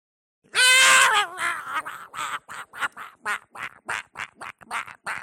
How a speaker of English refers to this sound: Tiki bird.